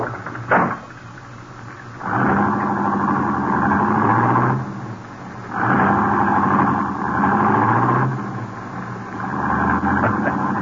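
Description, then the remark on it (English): A sharp thump like a car door shutting, then a car engine, started with the key left in the ignition, starts and revs in several loud, sustained surges as it drives off. No one speaks. “Key's still in the ignition, too. Yeah, we're in luck. Get in. Drive it out to the farm.”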